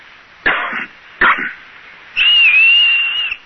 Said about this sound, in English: Look, I'll cough twice, like this. And you whistle back. That way, we'll know it's us.